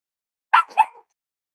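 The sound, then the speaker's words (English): A dog behind the speaker gives a quick double bark, two sharp yaps in close succession, moderately loud, with quiet before and after. “I have a dog that's sleeping behind me.”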